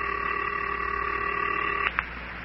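A steady, bright telephone tone hums for about two seconds, then breaks off into two quick clicks, like a phone being dialed, as someone calls the Wunderlich twins. No one speaks.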